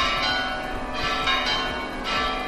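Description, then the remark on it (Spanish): Church bells of the Basilica at Covadonga peal at midday for a celebration in a busy, overlapping clang, several strikes ringing out in quick succession with a bright, sustained shimmer filling the air. “En Covadonga está su cuna y allí en la Basílica, junto a la Santina, han repicado las campanas a mediodía para celebrar este momento histórico.”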